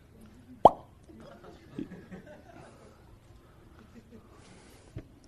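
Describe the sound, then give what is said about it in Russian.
A cork pops once from a toy pistol with a sharp, loud snap near the start. Soft chuckling and murmuring voices follow, and a faint click comes near the end. “А там пистолет и пробка. И опять мы ее заряжаем.”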